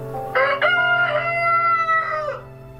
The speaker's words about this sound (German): Sein Krähen hatte jedenfalls erst Anwohner getriggert, dann aber auch den französischen Gesetzgeber. Maurice durfte weiter krähen und wurde zum höchstinstanzlichen Präzedenzfall.